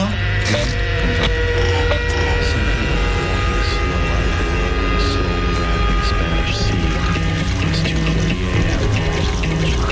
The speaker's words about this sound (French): Il y a juste un endroit, ça fait la lumière du frigo. Ça monte comme ça.